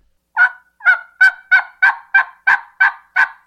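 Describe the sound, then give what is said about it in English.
A turkey call produces a series of nine raspy yelps in a steady, evenly spaced rhythm, loud, with no talking. “But that's your yelp. That's essentially like a people saying hi.”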